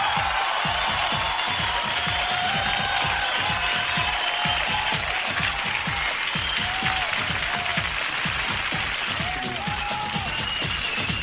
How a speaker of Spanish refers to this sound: Un aplauso por eso, ¿eh?